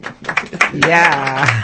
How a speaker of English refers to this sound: Yeah. You're hearing the applause, listeners?